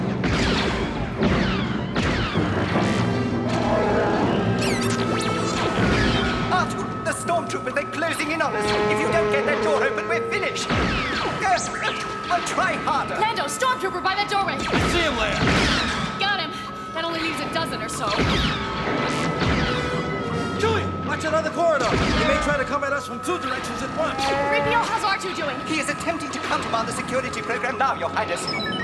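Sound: blaster gunfire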